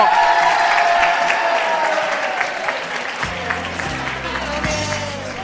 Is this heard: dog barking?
no